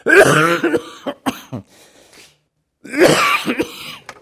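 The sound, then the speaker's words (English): A loud bout of coughing from a person who has had the cough for two weeks: a harsh burst, a few sharp hacks, a brief pause with a faint wheezy breath, then another rough coughing fit. “I've had this cough for 2 weeks now.”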